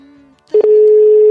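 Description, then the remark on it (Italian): A telephone ringing tone on a call to the Koala: after a brief hum and near-silence, a few clicks give way to a loud, steady tone that holds unbroken to the end. “Ecco che squilla.”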